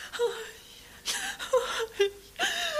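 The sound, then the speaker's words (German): A girl crying bitterly and inconsolably after her ball vanished into a deep well: a string of high, wavering sobs and whimpers broken by sharp, gasping breaths, with no talking around it. “Da fing sie an, gar bitterlich zu weinen und konnte sich nicht trösten.”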